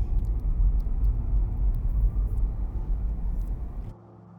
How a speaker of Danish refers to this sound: Pludselig ved et skarpt sving stopper Sabrina bilen.